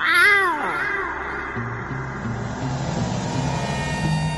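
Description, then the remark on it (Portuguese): A man's voice lets out one drawn-out, cat-like meow at the start, imitating a cat as the character Ocelot in a video game scene. It rises and falls, then fades into a low, steady hum. “Depois de um miado.”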